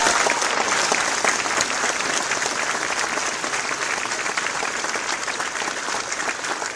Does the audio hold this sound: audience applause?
yes